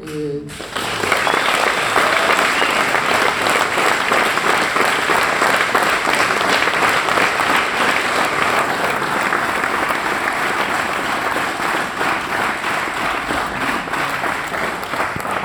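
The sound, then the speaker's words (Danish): An audience breaks into sustained applause after a brief moment, a dense, steady wash of many hands clapping that holds at full strength for about fifteen seconds. “Jeg er sådan lidt sjov i klappet der, fordi du er lige der begyndt at drikke.”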